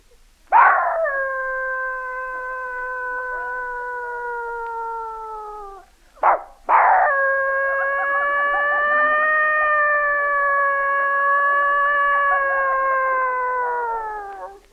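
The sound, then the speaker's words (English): Two long, sustained dog howls, each rising sharply and then holding a steady, harmonic tone before trailing off, separated by a brief yelp; loud, no talking. “Dog serenade.”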